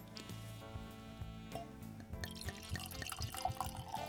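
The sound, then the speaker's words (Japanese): Orange wine, a 2018 Zao Woody Farm Petit Manseng, pours into a glass with a steady liquid gurgle and a few light glassy tinks near the end, all set against continuous background music. “はい、 はい、早速注いでみたいと思います。”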